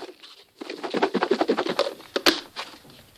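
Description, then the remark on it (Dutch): Dry ingredients, including ground glass powder, are shaken together in a container, making a rapid run of rattling, pattering bursts with a brief pause partway through, fairly soft and with no voices. “Nu shake ik al die ingrediënten even door elkaar.”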